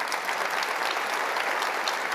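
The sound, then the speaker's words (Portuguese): An audience applauding Jesus, with dense, steady clapping that holds at an even, fairly loud level throughout, many hands blending into a continuous crackling wash with no voices on top. “Pode aplaudir a Jesus por isso?”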